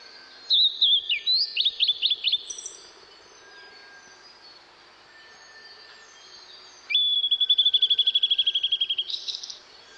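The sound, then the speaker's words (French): Sparrows chirp in two lively bursts of quick, high notes, a short chattering run first, then after a quiet pause a longer rapid trill, clear over a faint steady background hiss. “Les moineaux prennent des mines d'admirateurs de fleurs.”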